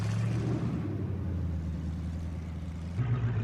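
A van engine idles at a red traffic light on a busy two-lane road, its left turn signal blinking, with a steady, low rumbling hum that holds constant throughout, with no voices and no revving.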